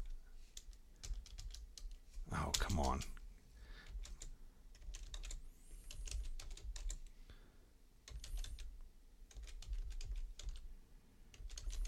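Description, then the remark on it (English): Rapid clacking of the keys of a crusty computer keyboard in uneven bursts throughout, with a louder cluster of taps partway through and a brief muttered remark from a person. “My keyboard is so crusty.”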